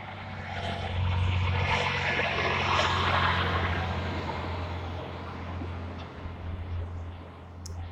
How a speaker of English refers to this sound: Oh, big truck coming.